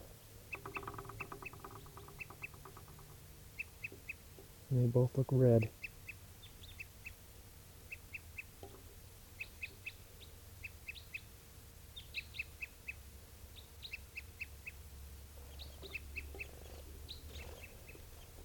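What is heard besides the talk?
crossbill toop calls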